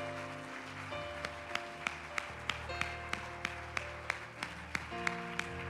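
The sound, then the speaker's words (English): A church audience claps hands in praise to the Lord in a steady, even rhythm, the sharp claps landing about twice a second over sustained keyboard chords and a low bass line. “Clap your hands to the Lord and let's praise him again.”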